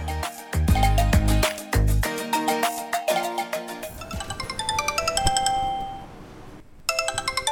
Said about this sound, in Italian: Ragazzi, il telefono a chi tocca? Vado io.